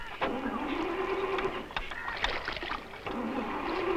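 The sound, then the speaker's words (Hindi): A car engine cranks over and over without catching, a whirring, grinding starter motor in loud bursts with brief pauses between attempts; the car had been running fine just before. “पता नहीं क्या हो गया इसे, अभी तो ठीक थी, शायद धक्का मारना पड़ेगा।”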